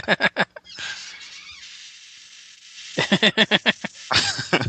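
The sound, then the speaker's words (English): A chair squeaks and creaks in short, rapid bursts, several quick squeals at the start, then a quieter rough rustling stretch, then another fast run of loud creaky squeaks. “That sounded like a fart. Right. Perhaps I need to buy some WD-40.”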